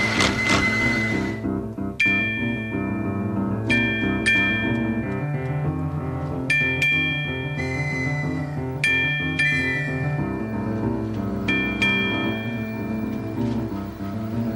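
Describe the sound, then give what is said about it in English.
A toy trolley passes through the Neighborhood of Make-Believe to its tinkling tune: bright, high chime-like notes ring out every couple of seconds over a steady, full musical accompaniment, with no voices. “Let's make believe that he and his friend Chef Brockett are talking about a new order right as the trolley goes by in the neighborhood of make-believe.”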